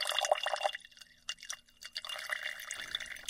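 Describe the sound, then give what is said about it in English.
Pigment-laden fluid trickles and splashes into a glass jar, a thin pour with drips and short gaps, fairly quiet and continuous, with no voices. “All the fluid that's still kind of floating around with pigment, I'm going to pour that into a different jar and save it.”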